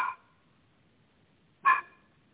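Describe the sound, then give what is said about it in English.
A male puppy barks twice, two short, high-pitched yaps about a second and a half apart, clear against an otherwise quiet background. “I think that puppy wants to help.”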